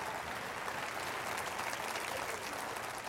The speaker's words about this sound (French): Est-ce qu'on peut applaudir la moisson de Dieu en plein été?